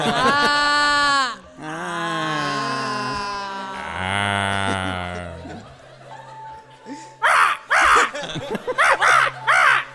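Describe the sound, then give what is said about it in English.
A person imitates a crow, giving three long, loud, drawn-out caws that sag downward in pitch, followed by a few seconds of quick chatter. “What's the bird that goes, like, that sounds disappointed at the end, that goes, ah. Crow.”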